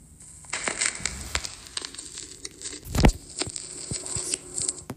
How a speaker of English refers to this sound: So it starts off with record static.